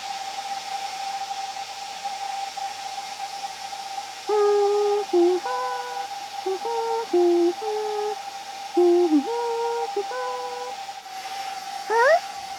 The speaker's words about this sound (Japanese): あ、ドライヤーしてても聞こえる？こうして君の髪、乾かすの楽しくって。